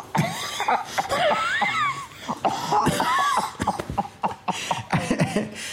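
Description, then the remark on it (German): A voice imitates an old woman's wheezing cough, a run of raspy, breathy hacks and strained wheezes sputtering in uneven bursts for several seconds, fairly loud. “Hat sie vielleicht die Alte gehustet?”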